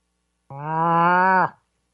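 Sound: cow mooing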